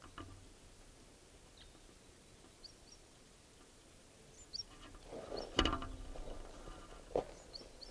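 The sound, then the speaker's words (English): Faint, sparse high chirping notes of a male type 2 red crossbill singing in flight near camp in the morning, a few short phrases over steady hiss, with a brief rustling thump midway. “Morning, there's at least three type 2 crossbills near camp singing and calling.”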